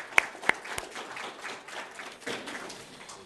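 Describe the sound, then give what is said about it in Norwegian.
Municipal council members applaud a junior world championship silver medal in a combined team competition, opening with a few sharp, loud claps that give way to a steady patter of moderate clapping for a few seconds, with no talking. “Før vi går på frammøtelista, så vil jeg bare informere om at Eida Johan Strøm har da tatt sølv junior-VM, kombinert lagkonkurranse, så han har fått en oppmerksomhet, men jeg tenker at kommunestyret kan gi en liten applaus for det før vi begynner.”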